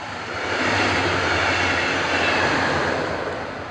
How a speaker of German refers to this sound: Wir stehen jetzt ungefähr entfernt gute 25 Meter vom Gleis. Ja, wenn nicht 30, 25, 30 Meter. Jetzt kommt ein Zug, Sie können es hier sehen.